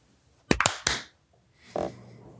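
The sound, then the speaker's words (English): A quick, ragged burst of three or four sharp hand claps marking the start of an intro, loud and crisp, followed after a pause by a softer, muffled thump. No one speaks. “I feel pressure to say something after the clap, because otherwise the intro doesn't really work unless somebody says something after the clap.”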